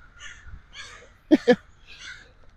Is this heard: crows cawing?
yes